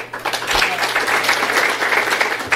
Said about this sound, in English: Not as much applause on that one, but hold on.